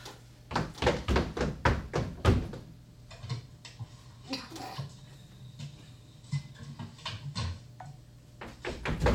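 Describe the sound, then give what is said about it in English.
A door is opened: a quick run of sharp clicks and knocks as the latch is worked, then softer scraping and thumps as it swings, with a steady low hum underneath. “Okay, keep calm, go into the door, and I'll be on the ready with bug spray.”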